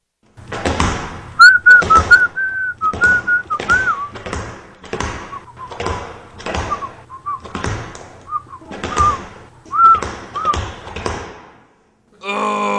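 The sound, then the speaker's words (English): A thin, wavering whistle rises and falls over a steady run of thudding footfalls, evenly paced as someone skips along while whistling; the whistling breaks off near the end. “I'll never learn to skip and whistle at the same time.”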